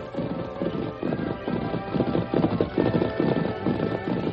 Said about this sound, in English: It was less than an hour later when Tonto, waiting patiently beside the main trail to Kingsville, heard the echo of approaching hoofbeats.